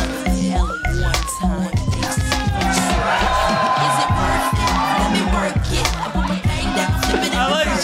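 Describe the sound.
A loud audience cheers and chants a performer's name after a dance, in a steady rhythmic pulse, many voices blending into a continuous roar for the whole stretch, with scattered laughter mixed in.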